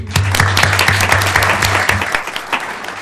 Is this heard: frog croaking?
no